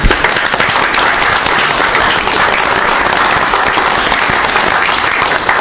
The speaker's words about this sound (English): I'll take that clapping as a unanimous second.